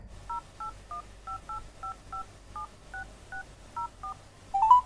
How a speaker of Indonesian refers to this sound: Coba aku hubungi handphonenya.